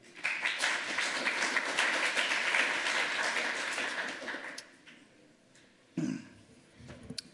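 An audience applauds the presenter steadily for about four and a half seconds in a dense patter of clapping, then it fades out, followed by a brief cough-like sound and quiet rustling.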